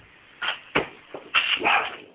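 dog barking

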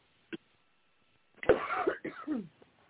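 coughing

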